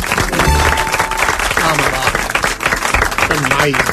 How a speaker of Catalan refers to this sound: Un aplaudiment per als metges de capçalera.